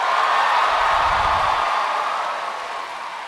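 A crowd of 1,500 in Saratoga Springs claps steadily to welcome Neil Gaiman to The Book Show, a dense, continuous wash of applause that stays loud throughout and eases off slightly toward the end. No one speaks over it.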